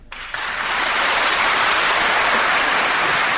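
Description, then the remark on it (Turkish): An audience, asked to applaud fellow performers as if a conference had just ended, bursts into applause after a brief quiet start, swelling within half a second into a dense, steady wash of clapping that holds loud and even to the end. “Diğer sanatçı arkadaşları, özellikle çok alkışlamanızı rica ediyorum.”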